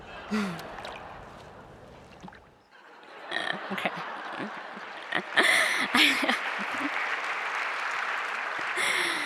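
A brief musical passage gives way to a crowd clapping, a dense steady patter of many hands that stays fairly loud, with a few scattered voices mixed in, for several seconds.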